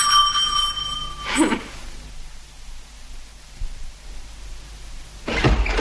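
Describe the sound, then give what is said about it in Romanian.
A bright bell rings at the start, its clear tone sustaining for about a second before cutting off, followed by a couple of short rustling or clattering noises amid otherwise quiet. “Cineva stă gata să vină încoace când sună clopotul.”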